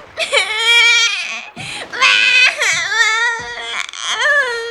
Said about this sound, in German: Meine Kinder weinen.